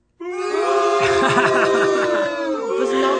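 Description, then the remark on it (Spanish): A few audience members at a show let out a long, sustained boo instead of applause, starting abruptly and holding a steady, droning pitch for about three seconds, loud and unbroken, with slight wavering underneath. “¿Eso es un aplauso? No lo es. Es un abucheo.”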